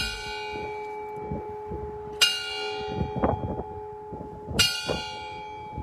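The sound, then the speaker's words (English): Large memorial bells, rung in Utah (the Capitol bells in Salt Lake City, and bells in Provo) to honor lives lost to COVID on the day of Joe Biden's inauguration, toll slowly: two bright strikes about two seconds apart with long ringing overtones, heard outdoors over a low background murmur. “In Salt Lake City, the Capitol bells rung, and in Provo City, they also rang 15 times to remember 1,500 Utahns who died from COVID.”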